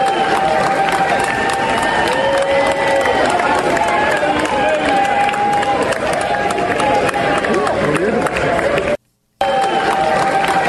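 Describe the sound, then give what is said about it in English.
A large crowd of Democrats in a legislative chamber, waving small handheld Ukraine flags, cheers and applauds continuously, a dense roar of voices, whoops and clapping that stays loud throughout, briefly cutting out near the end before resuming. “But here's the cheering from the Democrats waving handheld little Ukraine flags.”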